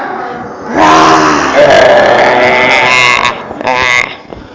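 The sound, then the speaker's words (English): A group of people stand and growl together like a bear, pretending to be Cody the bear. It is a loud, rough, sustained roar of many voices lasting a few seconds, followed by a shorter second burst. “And we're going to growl like a bear.”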